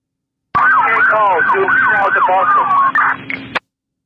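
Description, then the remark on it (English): An ambulance siren wails in rapid rising and falling sweeps for about three seconds, loud and thin-sounding as if heard over a radio channel, with a steady low hum beneath it. “Squad, make sure that the ambulance comes to the Sally Port squad.”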